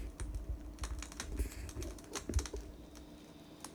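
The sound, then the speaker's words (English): A fire crackling steadily, with irregular sharp pops and snaps scattered over a soft, low rumble. No one speaks. “Bring your awareness to the sound of the fire.”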